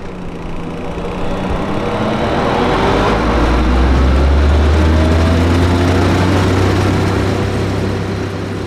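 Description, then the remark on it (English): A loud, steady engine drone with a deep low rumble and harmonic whine that rises slightly in pitch midway, from a bright red cattail harvester on tank treads, pushing forward through a wetland and spitting out cattails as it moves. No one speaks. “The bright red harvester pushes forward, spitting out cattails as it moves.”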